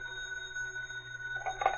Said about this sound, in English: Meanwhile, Professor Lowell also received a phone call.